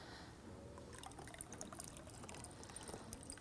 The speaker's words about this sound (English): Whoop, there is water in here. It helps if you turn it to pour out.